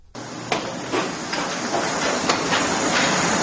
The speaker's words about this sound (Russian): На площади Гудиашвили слышен характерный для стройки шум. Здесь пилят, строгают, бьют молотком, штукатурят, словом, работают на всю катушку.